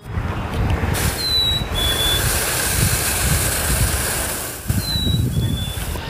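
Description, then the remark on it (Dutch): A chickadee whistles a clear two-note call, a higher note dropping to a slightly lower one, given twice over a steady rushing background of wind-like noise. “Ze zeggen dat er een soort chickadee is die gelijkaardig fluit.”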